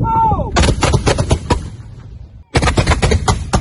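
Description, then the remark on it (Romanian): Rapid bursts of loud gunfire crackle in dense, repeated volleys during a battalion's live-fire military combat exercise, pausing briefly before another burst resumes; a short tonal whine is audible at the very start. “În cadrul exercițiilor cu trageri de luptă, batalionul a executat până la această dată 10 trageri de luptă, la care militarii au obținut calificative foarte bune pe măsura pregătirii tehnicii și a personalului.”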